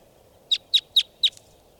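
wild bird calling

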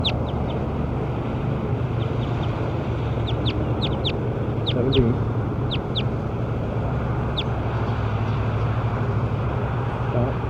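birds calling outdoors

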